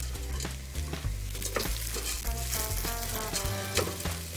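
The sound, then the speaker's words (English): Red lentils sizzle steadily as they fry in a hot pan while a utensil scrapes and stirs through them, producing repeated sharp clicks and rustling scrapes, with no talking. “And we're going to fry these lentils.”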